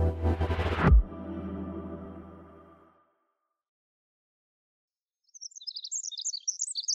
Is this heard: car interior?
no